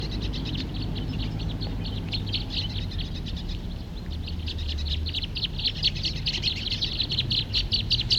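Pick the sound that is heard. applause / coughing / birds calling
birds calling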